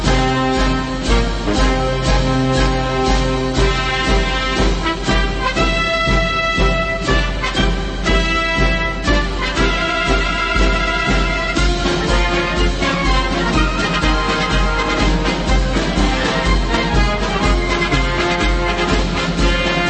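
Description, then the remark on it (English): Military-style band music for the Fourth of July plays loudly and continuously throughout, with full, dense instrumentation and a steady rhythmic drive, and no voices heard over it. “There's some military music for you for a 4th of July.”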